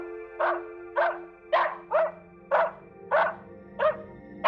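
animal, dog barking

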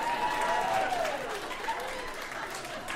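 crowd, audience applause

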